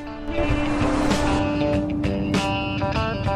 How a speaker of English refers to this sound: Dallas and Liz are riding in a car together.